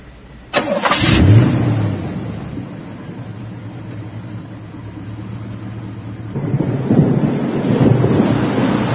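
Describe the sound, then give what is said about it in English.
A car engine cranks with a sudden loud burst near the start, then a steady low rumble of the engine struggling and failing to start, swelling again toward the end. Fairly loud, no voices. “I can't get the engine started.”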